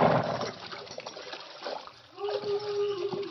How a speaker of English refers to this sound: Well, we're in luck. There's water here. Ah, it's running water, too. Good and cold.